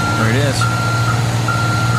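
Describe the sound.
A truck's reversing alarm beeps steadily in a regular on-off pattern over a low engine rumble, with a brief voice at the very start.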